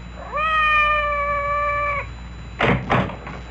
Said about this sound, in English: Did you hear anything? Outside the door. It sounded like Madame's cat, Francois.